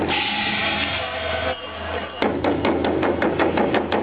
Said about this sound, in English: A pair of Vietnamese dragons brave the drizzle in Prague's Namysti Miru Square, the four dancers gyrating in their bright red and yellow costumes to the beat of a drum.